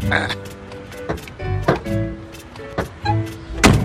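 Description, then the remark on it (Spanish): A man tries to open the driver's door of a 1950s egg-yellow Chevrolet with a black roof: several sharp metallic clunks and thumps at irregular intervals, with a low murmuring tone running underneath. “junto al que está parado Tito, que intenta abrir la puerta del conductor”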